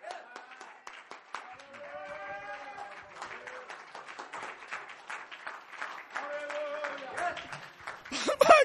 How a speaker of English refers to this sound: Let me do the one thing. I just clapped my hands.